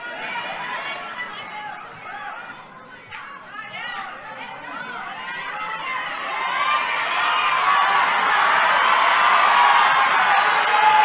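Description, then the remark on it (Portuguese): An audience chatters and shouts throughout, building after a few seconds into a louder, sustained swell of cheering and yelling from many voices at once. “Os que gritam, estão aqui também, estão aqui?”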